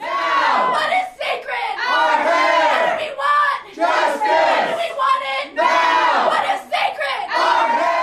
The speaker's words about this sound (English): The protesters then filed out of the boardroom and continued demonstrating just outside the doors in the tiled hallway.